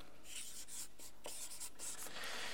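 A pen scratches across paper in a quick series of short, raspy strokes, fairly quiet, with no voices.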